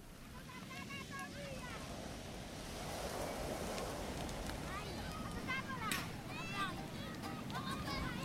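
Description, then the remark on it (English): Ocean waves wash steadily onto the shore of Hanuta, a small, remote island, a constant rushing roar with gusty wind noise, while faint high-pitched calls rise and fall. “Hanuta is so small that no matter where you are, the sound of the waves is ever present.”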